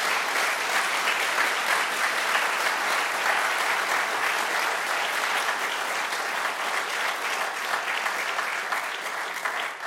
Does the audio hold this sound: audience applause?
yes